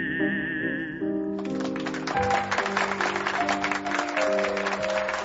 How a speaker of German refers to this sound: Der Beifall will nicht enden. Der Sänger verneigt sich und im allgemeinen Jubel bemerkt niemand, wie Franz Schubert leise aufsteht und den Raum verlässt.